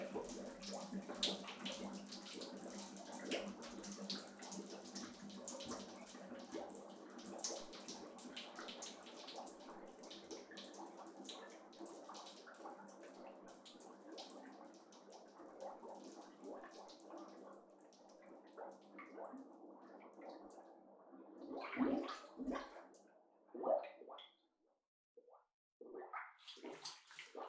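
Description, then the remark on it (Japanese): Bubble bath foam fizzes and crackles steadily over running bathtub water, continuous, followed near the end by a few sloshing splashes before it quiets down. “ほーら、もこもこパチパチ泡ができてきた。”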